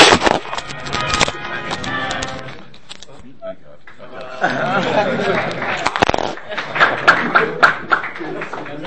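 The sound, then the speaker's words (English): An audience breaks into applause, many hands clapping in a dense, steady patter with voices mixed in, fading briefly midway before swelling again with sharper, louder claps. “Save the applause for after the show.”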